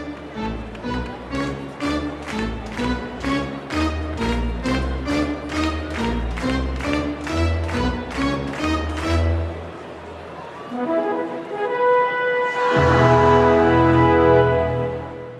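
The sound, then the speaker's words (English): Organist Nancy B. Heffley plays the Charge fanfare on the organ at Dodger Stadium: a long run of quick, evenly spaced staccato notes building upward as an ascending intro, then a pause and a burst of loud, sustained bright chords. No one speaks. “These days, that fanfare is commonly played on the organ at hockey and baseball games.”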